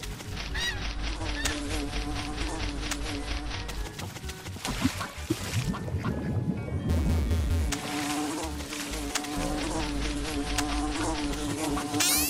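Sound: video game wasps buzzing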